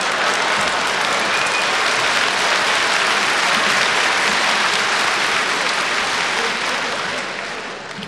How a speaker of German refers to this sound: Wenn ich sage, everybody clap your hands, dann meine ich, dass sie die Innenflächen ihrer Hände so ruckartig zusammenführen, dass dabei dieser Klatschlaut entsteht.